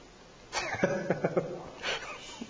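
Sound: sneeze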